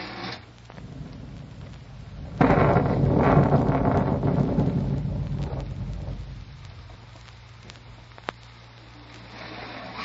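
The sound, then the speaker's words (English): Heavy rain that has been going steady for three hours hisses steadily throughout, and a long, loud roll of thunder swells in after a couple of seconds, rumbling for several seconds before fading back into the downpour. No one speaks. “Some rain, huh? It's been going steady for 3 hours.”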